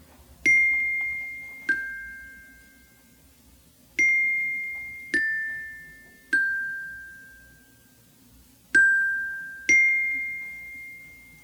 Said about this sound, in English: Those are single notes on the xylophone.